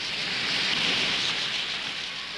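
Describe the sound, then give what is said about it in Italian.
Heavy rain from a sudden downpour pours down steadily in a dense, hissing wash, fairly loud, with no voices over it. “Uno scroscio d'acqua improvviso fece rientrare precipitosamente il bimbo in casa.”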